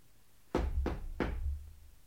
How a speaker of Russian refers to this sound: Вдруг кто-то постучал к нам в дверь.